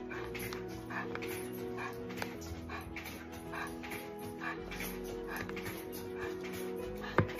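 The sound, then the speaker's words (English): An excited dog named Baxter barks in quick, repeated yips mixed with high, eager whimpers and whines, fairly loud, continuing steadily over several seconds with no one speaking. “here is Baxter, and please note his enthusiasm.”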